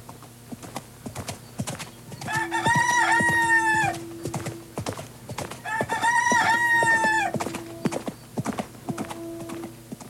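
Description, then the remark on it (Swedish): A rooster, carried under a man's arm as he gallops on a stallion along forest paths toward a summer farm, crows twice, loud and strained, each call stretching over a second, while horse hooves clip-clop steadily underneath at a brisk pace. “Han tar med sig den vilt galande tuppen under armen när han galopperar fram längs skogsstigarna mot fäboden.”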